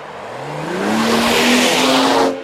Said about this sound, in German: Und jetzt hören wir das gleiche Auto nochmal, wenn der Testfahrer statt mit 50 mit 55 km/h anfährt.